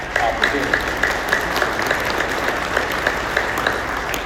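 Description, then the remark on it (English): A crowd applauds steadily, dense clapping at a fairly loud, even level for a few seconds with no one speaking over it. “So again, another applause line.”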